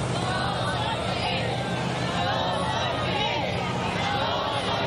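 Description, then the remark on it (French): A large crowd of Cubans chanting "Yo soy Fidel" together during Fidel Castro's funeral procession in eastern Cuba, a dense wall of many voices that stays loud and steady throughout without a break or any single voice standing out. “« Yo soy Fidel » « Je suis fidèle », c'est ce qu'il scandait aujourd'hui.”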